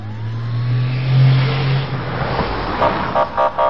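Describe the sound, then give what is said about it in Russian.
A car with flashing lights, hurrying to help people, hums and revs as it drives by, followed near the end by a quick series of short, repeated tonal beeps. “Машинки с мигалками.”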